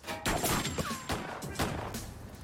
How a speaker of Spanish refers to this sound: Entonces dos hombres armados salieron del banco. ¡Alto ahí! 119 disparos. 119 disparos por todas partes. Están disparando.